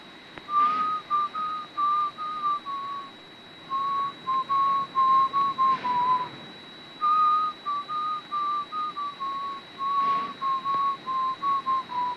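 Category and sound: human body sound, man whistling a tune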